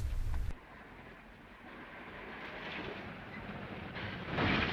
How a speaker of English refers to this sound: Window soaking wet has walked back to the road just as a car comes along.